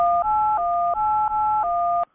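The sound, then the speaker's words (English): A quick run of about six telephone keypad tones, pressed on a voicemail menu to hear the next message, each a steady dual-pitched beep flowing straight into the next with slight pitch shifts between presses, fairly loud with no talking. “To hear Don's next message, press 6.”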